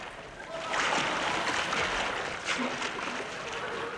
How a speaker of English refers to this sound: It is a bit chilly, I admit, swimming. Still, we must guard our great river, the Thames.